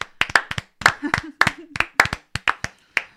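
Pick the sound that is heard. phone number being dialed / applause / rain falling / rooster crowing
applause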